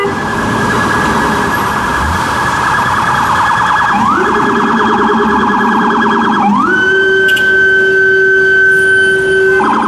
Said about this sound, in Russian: Там без сирены вообще нельзя, запрещено. То есть мигалка и сирена — это одно и то же.